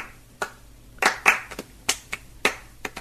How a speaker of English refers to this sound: That's all recorded clapping.